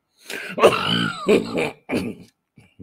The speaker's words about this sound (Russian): Я прошу прощения за кашель.